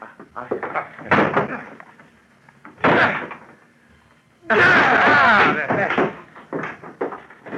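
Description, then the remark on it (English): Heavy blows strike a locked door, two separate thuds, then a long, loud splintering crash as it gives way, with voices and movement around the impacts. “Open the door. It's locked. Then break it down.”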